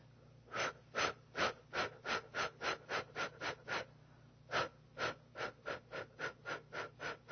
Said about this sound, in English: And we're going to do some breathing for you. We're going to do some clearing.